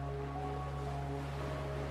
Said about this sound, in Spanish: Observando las olas del mar que rompen cerca de la orilla, llegando hasta casi tocar tus pies descalzos.